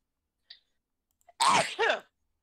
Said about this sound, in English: I feel a sneeze coming on.